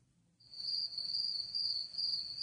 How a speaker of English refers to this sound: Crickets.